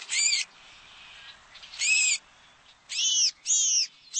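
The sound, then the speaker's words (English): A house finch gives four loud, slightly harsh, high-pitched calls in separate bursts, each under half a second, with short pauses between them and no other sounds. “Although the American crow may seem rather blasé about pillaging another bird's nest, like that of this house finch.”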